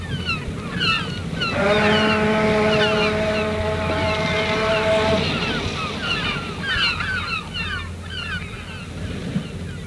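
The opening of a French pop song built from harbour sounds: a long, steady ship's horn blast over rolling waves and wind, with scattered high chirping cries like gulls throughout.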